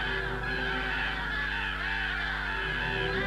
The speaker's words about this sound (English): She jumps to her feet, her ears picking up the sound of the crows.